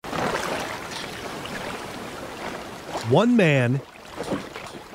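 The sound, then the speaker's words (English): Steady rushing of water and wind around a sailboat under way on the open ocean, a continuous broad wash of spray and hull noise, with a man's voice speaking briefly over it near the end. “one boat, 27,000 nautical miles of open ocean.”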